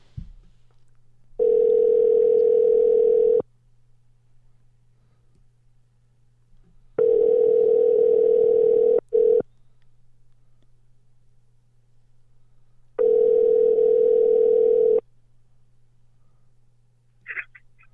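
A telephone ringback tone rings three times, each steady buzzing burst lasting about two seconds with long silent pauses between, over a faint constant low hum.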